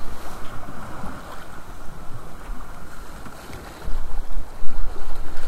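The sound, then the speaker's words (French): A sailboat moves through open water on its way around the Plougastel peninsula toward Île Ronde in France, with steady wind buffeting the microphone and water rushing and splashing along the hull, growing louder in gusts toward the end. No one speaks. “Et voilà, on a 2 petites heures de route là, si le vent ne nous abandonne pas.”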